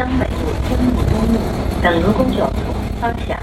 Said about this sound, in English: A stiff April wind blasts through the bus. All the windows are open.